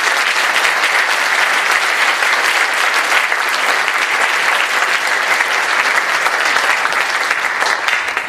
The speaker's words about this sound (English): All right, let's give James and Shadid a round of applause.